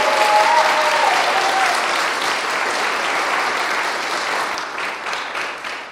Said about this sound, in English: So thank you so much for honoring the library by doing your debut concert here. I'm hoping that this is not the last time. Can we please give a round of applause for Dr. Quentin Morris for all of his love?